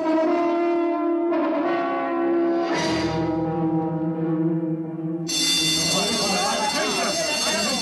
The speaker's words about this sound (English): Silence! Once again, the change bell has sounded. There has been another change.